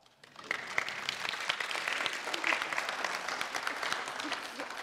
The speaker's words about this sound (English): I don't know who, but somebody gave their heart and life to Jesus this morning. And that's cause for celebration, is it not? You can applaud.